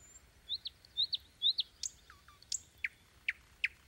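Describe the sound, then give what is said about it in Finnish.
A thrush nightingale sings, a loud, clear series of sharp chirps and whistled notes repeated in a steady rhythm, with no voices or other sounds around it. “Satakielellä on hyvin suuri reviiri ja sen vuoksi sen laulu on hyvin voimakasta.”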